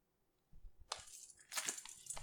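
Scissors snip through a shirt: a few crisp, rasping cuts in quick succession, growing denser toward the end, with no voices.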